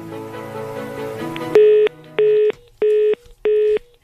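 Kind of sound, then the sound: signal or alarm, phone call hang-up tone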